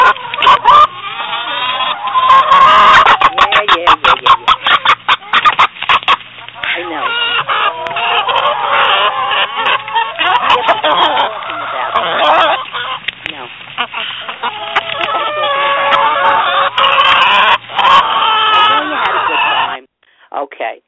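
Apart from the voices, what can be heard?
rubber chicken toys squawking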